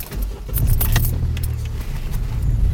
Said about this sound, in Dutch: Zo, die vrachtwagen reed wel heel hard.